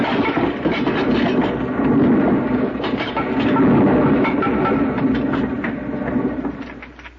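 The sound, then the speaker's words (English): A loud, continuous rumble of rock tumbling and crashing down after ore is struck with a pick, thick with dense clattering impacts that rise and swell for several seconds before easing off slightly at the end, leaving a pile of rubble. “Here, let me help you out of that pile of rubble.”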